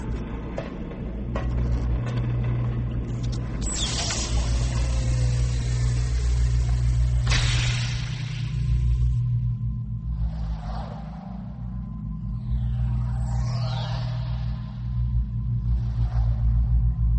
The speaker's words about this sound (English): Those are the drones that will fix your ship.